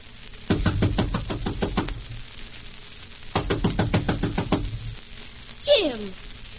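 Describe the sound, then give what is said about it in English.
Two bursts of rapid, firm knocking on a door, each about eight sharp raps, separated by a brief pause, then a short falling squeal at the end. “I thought you'd never open the door.”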